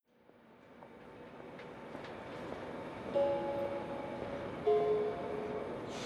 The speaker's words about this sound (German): Meine Damen und Herren an Gleis 2, Ihr Zug fährt in Kürze ab. Bitte steigen Sie ein. Türen schließen selbsttätig. Vorsicht bei der Abfahrt.